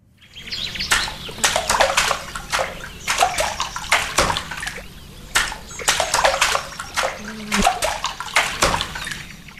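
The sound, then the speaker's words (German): A rhythm tapped out with a paddle: sharp, splashy strikes in repeated clusters of quick hits separated by short pauses, with watery sloshing in between. No one speaks. “dann macht ihr mir diesen Rhythmus bitte nochmal nach. Ihr müsst übrigens kein Paddel dazu verwenden”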